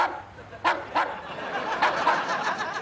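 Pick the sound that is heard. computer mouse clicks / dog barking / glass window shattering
dog barking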